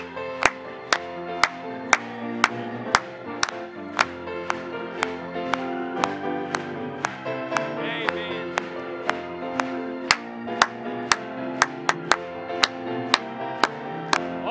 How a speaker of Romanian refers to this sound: Haideți, doar să aplaudăm Lui!